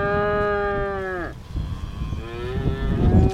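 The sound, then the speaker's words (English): A cow on a farm in southwest Missouri, tended by its farmer on a very windy day, lets out a long, loud moo that drops in pitch at the end, then a second, softer moo follows, with gusty wind rumbling steadily underneath. “is tending to some of his cows on a very windy day on his southwest Missouri farm.”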